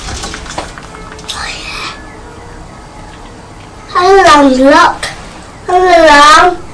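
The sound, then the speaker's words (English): A crow gives two loud, drawn-out alarm calls, each about a second long with a harsh, wavering pitch, after a quieter stretch of faint background noise. “I think somebody else's alarm's going off now as well.”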